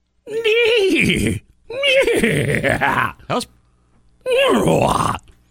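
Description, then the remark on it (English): On the radio station 97.3 The Sky, a person loudly imitates a horse whinnying for a horse parade bit, in three wavering, pitch-sliding bursts, each about a second long, separated by short pauses, with no other sounds. “Giddy up! Time for the horse parade!”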